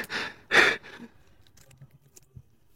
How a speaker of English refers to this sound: He even done the breathing.